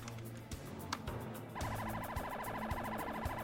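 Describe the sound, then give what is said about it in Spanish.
Police and ambulance sirens blare together as a police patrol car and an ambulance respond to a scene at the University of Miami, a rapid warbling wail kicking in midway over steady traffic rumble, loud with repeated pulsing tones. “Una patrulla de la policía y una ambulancia acuden a la escena.”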